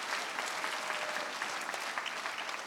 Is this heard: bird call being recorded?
no